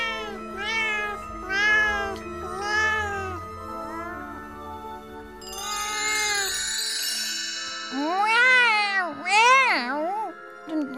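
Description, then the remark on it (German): A person imitating a cat, letting out a string of six or seven drawn-out, whiny meows, some rising and falling, fairly loud with short pauses between them. “gerade eben noch war ich eine Katze.”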